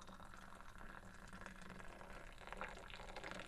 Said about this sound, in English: Why are you standing on the table pouring it? Why do they do that in some countries? Okay, our tea is poured.